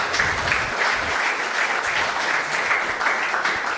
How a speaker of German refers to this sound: Also großen Applaus an euch, die ihr da alle sitzt und alle, die nicht beim Closing dabei sind.